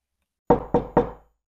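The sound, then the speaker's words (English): Three firm knocks on a wooden door in quick, even succession, resonant, each with a short hollow decay, with silence before and after. “Are we brave enough to knock on the door? Let's knock on it.”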